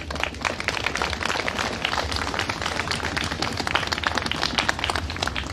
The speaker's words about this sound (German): Dafür erst nochmal an dieser Stelle ganz, ganz, ganz großen Applaus.